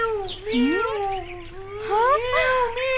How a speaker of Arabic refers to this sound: أرجوك أن تكفي عن البكاء، فأنا لا أصبر على ذلك. أرجوك أرجوك يا عزيزتي. هل أنت جائعة؟ حسنا حسنا، سوف أعطيك بعض الطعام لتأكلي. خذي خذي هذه القطعة من الخبز، هيا هيا خذيها خذيها، ولا تبكي، أرجوك أرجوك يا قطة.